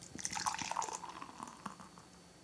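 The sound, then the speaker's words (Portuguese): Beer pours into a glass, a bubbly, gurgling stream with fizzing and splashing that softens into a quieter hiss of foam settling. No one speaks. “Pode fazer o servicinho de vocês com calma, escutando aquele barulhinho maravilhoso.”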